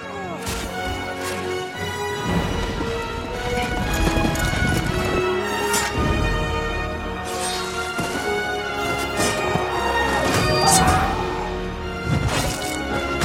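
A loud, dense film battle scene soundtrack: repeated sword strikes piercing bodies and wet thuds of spurting blood over galloping hooves, crashes and shouting voices, with a musical drone running continuously beneath.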